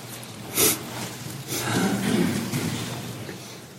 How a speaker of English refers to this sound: Y'all have to pardon me. I know a lot of stuff is going around, and I seem to have the sniffles this morning.